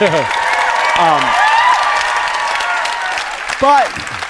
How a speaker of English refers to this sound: Applaud for Obamacare.